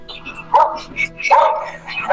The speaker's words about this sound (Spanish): Hasta el perrito me la está saludando.